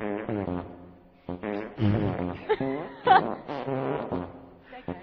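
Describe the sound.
A string of fart sounds made with the mouth, several buzzy bursts in quick succession, some rising and falling in pitch, loud and upfront with no other talk.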